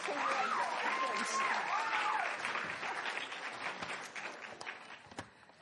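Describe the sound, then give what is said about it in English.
An award ceremony crowd cheers and applauds loudly as a gold medal in young adult literature is given for the book White Sands, Red Menace. A high whooping voice rises above dense clapping that gradually thins out into scattered claps. “Oh, she's got a cheering section.”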